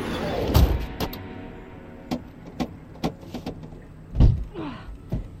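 Car door locks clunk shut inside a vehicle so the doors won't open, a lock called Master Lock: two heavy thuds among a scattering of sharp mechanical clicks, fairly loud against a quiet background.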